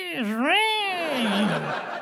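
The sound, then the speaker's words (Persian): A person's voice mimics a heron's call: one drawn-out, throaty cry about two seconds long whose pitch dips, swoops upward, then slides back down, fairly loud with no other talk. “ای بابا، اون صدای مرغ ماهیخوار کمکی نمیکنه.”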